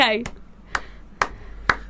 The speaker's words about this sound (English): He goes, okay, ready? There's a clap.